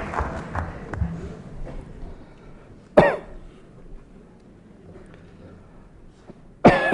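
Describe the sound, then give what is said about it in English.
A man with a cold coughs sharply twice, once in the middle and once near the end, with some throat clearing and faint rustling between the bursts. “I'm very sorry that I have to address you at a time when I came back to England with a cold and a cough.”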